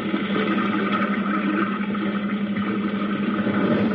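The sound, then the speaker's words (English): Logs sliding down a chute into a river, heard as a loud, steady rush of churning water that never lets up, with no separate thuds and no voices. “And then the logs are put in a chute and they're slid down to the river below.”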